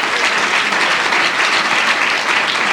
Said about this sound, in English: Clap. Hallelujah. Amen.